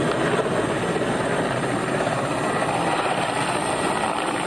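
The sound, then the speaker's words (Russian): A helicopter used to evacuate residents of flooded villages drones steadily and loudly overhead, its rotor and engine noise forming a dense, unbroken roar that fills the whole clip with no voices. “Жителей некоторых затопленных деревень приходилось эвакуировать с помощью вертолетов.”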